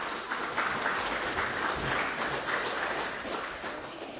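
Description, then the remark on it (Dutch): An audience claps steadily throughout, a dense, even wash of many hands with no pauses, fairly loud and with no talking over it, applauding after a class of children has sung. “Ze klappen.”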